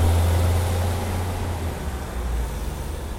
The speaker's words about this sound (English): So I'll just listen to the cars.